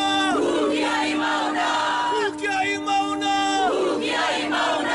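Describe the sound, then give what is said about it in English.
A group of Hawaiian activists chants together in long, sustained, rising and falling tones on a cold, foggy mountainside where construction of a large telescope was set to begin, loud and steady, with a brief dip partway through before the chant swells again. “They chanted.”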